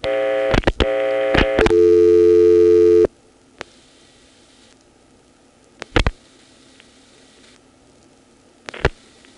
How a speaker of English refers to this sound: here's a recording of dropping the register sender, then dialing 9-3, plus the 7-digit number of the phone I'm calling from. The tone that indicates it's a reverting call when it comes in is very subtle.